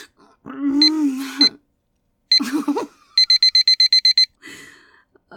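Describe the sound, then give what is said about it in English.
A kitchen timer alarm beeps in a quick, even burst of about nine sharp, high-pitched beeps, loud, following a couple of longer warbling tones. “The stupid fucking timer won't work and I...”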